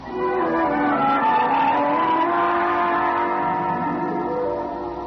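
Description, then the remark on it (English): A car pulls away with its tires squealing, a loud, sustained screech and engine roar lasting several seconds before easing off slightly at the end, with no voices. “Go ahead. It's your car.”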